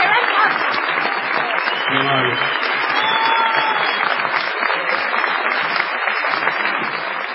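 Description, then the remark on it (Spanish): A large audience bursts into loud, sustained applause and cheering as an ovation for Patricio Barton, a dense wash of clapping that fills the whole stretch without letting up, with a brief voice rising through the crowd noise. “Presento a ustedes y les solicito la más tremenda ovación para Patricio Barton.”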